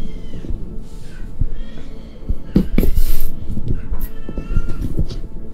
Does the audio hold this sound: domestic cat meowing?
yes